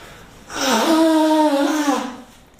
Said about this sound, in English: I'm going to blow my nose, hope you'll forgive me. I wish I could say this is the last time I'm going to do this, but I can't.